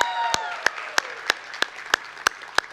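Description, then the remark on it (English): A crowd at the Vineyard church service applauds and cheers to welcome the online audience. A few whistle-like calls come early on, while sharp claps fall into a steady unison beat of about three per second over the dense roar. “Hey, can we make some noise and welcome in our online audience? Come on, let's hear it for them.”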